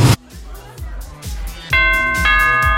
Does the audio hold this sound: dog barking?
no